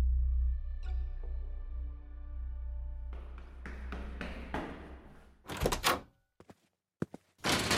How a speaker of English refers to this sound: The door slammed shut behind me. Too hard. I hadn't closed it. It was that thing.